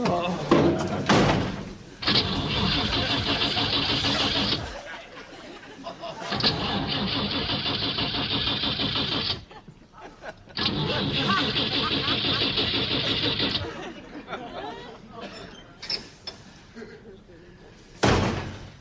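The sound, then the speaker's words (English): A truck engine out in the woods cranks three times in long, grinding bursts, each a few seconds of whirring starter strain that never catches, with a door slam before and after. “The truck won't start.”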